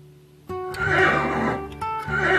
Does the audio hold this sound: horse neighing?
yes